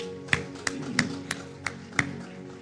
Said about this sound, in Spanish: Damos un fuerte aplauso al Señor.